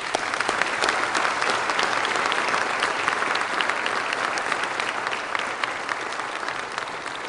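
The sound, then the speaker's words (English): A crowd claps steadily in sustained applause for the band, a dense, even wash of many hands that stays loud throughout with no voices on top. “I think it'd be appropriate if we thank them and praise the Lord for their talents with a round of applause.”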